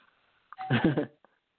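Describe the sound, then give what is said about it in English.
An electronic doorbell rings once, a bright, tonal chime lasting about half a second and fading out, followed by a faint short blip. “Although, if we were getting robbed, he wouldn't ring the doorbell.”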